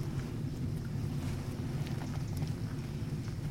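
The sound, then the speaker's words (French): Wind gusts through tree leaves, a steady low rumble overlaid with a soft, continuous rustling hiss that flickers faintly throughout, with no voices present. “Au moindre coup de vent, je sais pas si vous, ça vous l'a déjà fait, ouais. Mais on entend vraiment comme si on secouait des draps”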